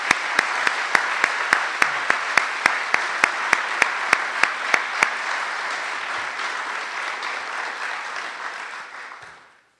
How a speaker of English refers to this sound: Let's give them all collectively one more round of applause.